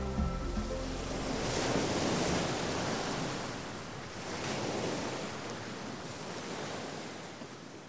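Ocean surf washes in steady, broad swells at sunset as a runner wades into the water at the finish line of a run across the United States, rising and falling in two or three surges, with a light wind rush over the mic and no voices.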